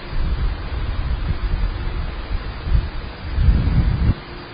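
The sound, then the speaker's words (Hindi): A stormy wash of rain and wind with deep, rolling rumbles of thunder swelling twice, the louder burst near the end, with no voices present. “परंतु उस चित्र में और एक बात थी, चारों ओर आवाज था, बादल थे, बिजली थी, बारिश थी, समुद्र था, तूफान था, झरना था।”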